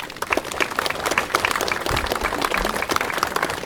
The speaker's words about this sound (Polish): Bardzo proszę, gromkie brawa dla naszego zespołu.